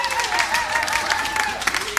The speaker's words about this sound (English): That was pretty rousing, wasn't it? All right, everybody. You don't have to stop. Come on, you can carry on making all your wonderful noise and cheering.